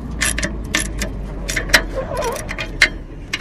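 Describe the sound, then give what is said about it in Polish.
A registration plate bearing the coat of arms of Środa and the tractor's year, 47, being screwed onto a tractor: irregular metallic clicks, rattles and short scraping bursts, with a few sharper ticks, over a steady low hum. “Przykręcam tablicę rejestracyjną. Z herbem Środy i z rocznikiem tego ciągnika.”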